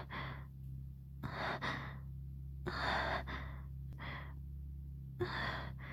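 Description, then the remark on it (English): Heavy, airy breaths rush in and out of a microphone in about five loud bursts over a few seconds, with brief pauses between them and a steady low hum underneath. No one speaks. “I feel like maybe I'm breathing into the microphone too much.”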